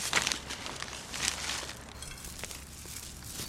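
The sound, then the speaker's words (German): A bag of horn shavings, to be used as fertilizer, rustles and crinkles in a run of short, papery bursts as a gardener takes it from her shed and pulls it open, with no voices. “Aus ihrem Schuppen holt die Gärtnerin eine Tüte mit Hornspänen.”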